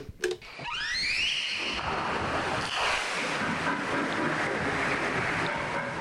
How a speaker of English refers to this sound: Humpback whale, and you can hear the range of sounds it uses to communicate. Researchers aren't always sure what it's saying, of course, but they eventually hope to understand. There's definitely meaning in those sounds.